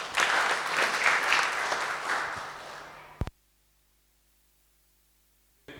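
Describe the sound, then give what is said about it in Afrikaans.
An audience applauds, a dense wash of many hands clapping at a steady loud level for about three seconds before it cuts off abruptly into near silence. “Dankie jylle, gee jou handen klap.”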